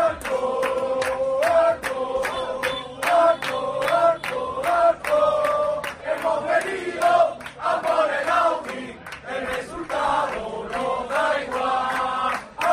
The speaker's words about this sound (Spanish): ¿Y el sonido de dónde lo rescatas? Pues también del Cádiz, de su afición.